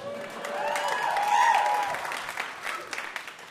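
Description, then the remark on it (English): A game show audience claps steadily for a few seconds on cue, the applause swelling then gradually thinning out, with a brief whistle rising through the middle of it. “Pause for applause.”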